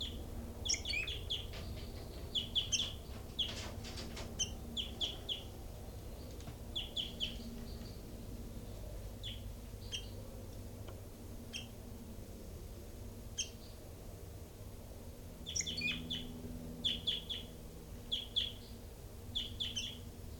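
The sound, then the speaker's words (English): Caged birds in numbered cells, including bird 3-3, give short, high chirps and squeaky calls in scattered bursts, some in quick rapid clusters, over a steady low hum; no one speaks. “So recording is bird 3-3 and so on.”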